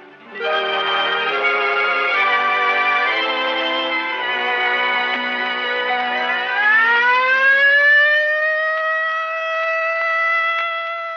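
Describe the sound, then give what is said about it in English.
A civil defense practice alert siren sounds loudly and continuously, a dense, buzzy chord that swells upward in pitch partway through and settles into a steady, sustained wail. No one speaks. “There it is, the practice alert.”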